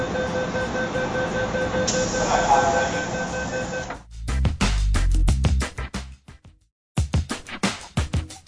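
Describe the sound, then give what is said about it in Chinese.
A Kowloon-Canton Railway special train pulling away: a steady, droning mechanical hum with a faint whine gives way to a string of loud, uneven clanks and knocks, briefly cutting out before the clatter resumes. “仲讲咁多，架车开啦，快啲上车啦。”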